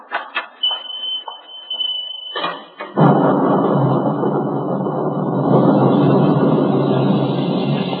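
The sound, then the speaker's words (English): A few sharp knocks and a brief high tone give way to a sudden, loud thunderstorm: heavy, steady roaring with deep rumbling thunder that fills the rest of the scene. “By the time I got home, the storm outside had stopped”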